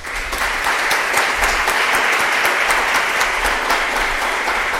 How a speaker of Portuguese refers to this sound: Vamos dar uma salva de palmas para Zumbi do Palmares.